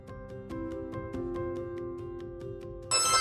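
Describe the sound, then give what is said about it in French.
A dense stack of electronic phone notification chimes rings out over and over, overlapping in a quick, steady stream, ending in a sudden bright burst of noise. “J'entends plein de bruits de notifications. Ça arrête jamais de sonner.”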